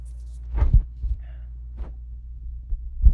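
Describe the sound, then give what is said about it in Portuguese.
Someone drinking water, with about three muffled gulping swallows spaced a second or so apart over a low steady hum, no talking. “eu vou beber uma aguinha aqui, vocês vão ter que ouvir de novo”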